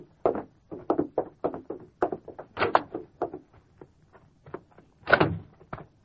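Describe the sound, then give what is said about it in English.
A back door opening and closing amid a steady run of short clunks and shuffling movement, with two louder bursts standing out partway through and near the end. “Gun might go off, Doc. Go on out the door.”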